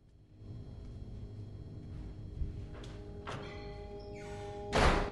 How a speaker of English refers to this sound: Leonard turns and walks out of the room, closing the door behind him